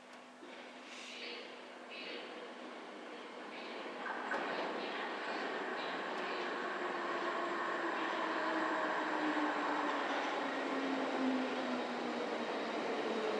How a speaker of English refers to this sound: Yeah, here comes the train.